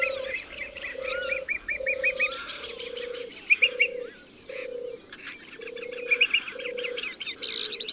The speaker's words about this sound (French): Dans cette salle, tu vas être témoin du passage spectaculaire des oiseaux migrateurs qui se produit à Cabaneros aux alentours du 21 mars.